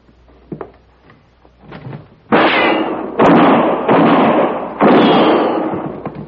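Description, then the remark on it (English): A few soft clicks and knocks as a door is opened by someone staying down on the floor, followed by four loud gunshots in quick succession, each with a booming, reverberant tail. No one speaks. “I'll stay down on the floor and open the door to draw his fire.”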